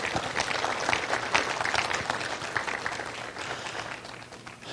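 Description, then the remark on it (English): Sustained audience applause for a woman who has just preached, a dense wash of many hands clapping at a steady level for several seconds, tapering slightly toward the end, with no voices standing out. “Give her a big hand clap.”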